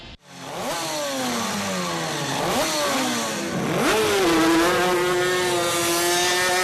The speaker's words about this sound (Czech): Sportovní motorové čluny vypluly na rybník Olšovec na Blanensku.